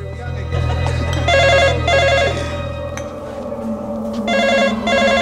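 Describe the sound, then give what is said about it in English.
An office telephone at a police station rings in two paired bursts of electronic trilling, fairly loud, over a steady low rumble of room noise. “transfers the call from his office phone.”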